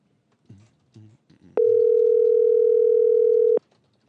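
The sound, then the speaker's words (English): An outgoing phone call rings on the line: one loud, steady electronic ring tone holding for about two seconds, preceded by a few soft, muffled bumps, with no one speaking. “pick up the phone.”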